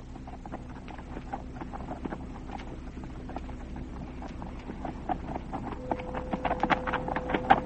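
horse hooves riding away

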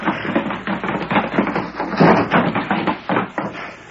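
horse galloping away

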